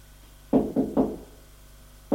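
Knocking on a door: three quick, solid knocks, then a short pause and a fourth knock. The thuds are low and fairly loud, with no voices.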